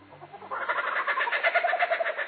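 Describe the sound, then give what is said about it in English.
A laughing kookaburra of Australia gives its crazed, laughter-like call: dense, repeated trilling notes after a brief low rumble at the start, sustained, with no voices. “It's a bird voice so distinctive, it's become one of the best-known sounds in nature.”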